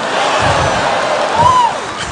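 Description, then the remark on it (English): A crowd claps and cheers steadily for about two seconds, a dense wash of applause with a rising and falling whoop cutting through near the end. “You guys are clapping, but you should have seen the interview.”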